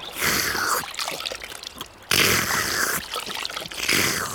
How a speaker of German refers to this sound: Benjamin und Otto stehen auf und waschen sich in einem kleinen Bach, der sich nahe beim Stall durch die Felsen schlängelt